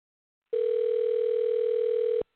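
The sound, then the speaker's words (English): A single steady electronic ringback tone from an outgoing, unannounced phone call, a loud, unbroken mid-pitched hum lasting under two seconds that starts and stops abruptly, with no voices. “And this is a call out of random, so he's going to pick up the phone not knowing.”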